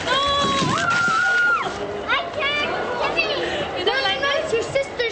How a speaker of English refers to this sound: Hear kids slide down ice chutes.